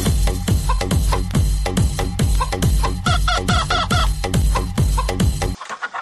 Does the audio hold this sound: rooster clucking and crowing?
yes